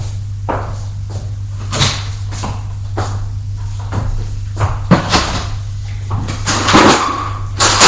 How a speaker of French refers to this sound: Cherche dans les tiroirs de son bureau un peu d'argent. Il en trouve, les prend.